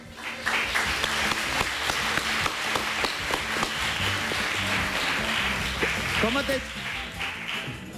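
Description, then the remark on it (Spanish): A crowd applauds a volunteer steadily for several seconds, a dense patter of many hands clapping at once, loud and continuous, with faint voices mixed underneath before it tapers slightly at the end. “Vale, pois, voluntario, damoslle un aplauso ao voluntario.”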